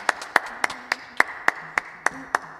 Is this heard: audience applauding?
yes